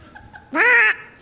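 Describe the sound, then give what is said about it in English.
A person imitates a duck with a single loud, nasal quack that lasts under half a second. It comes out clearly against near silence, with only faint murmurs before it. “I can do a duck.”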